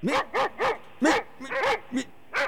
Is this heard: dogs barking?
yes